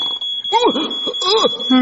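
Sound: fire alarm going off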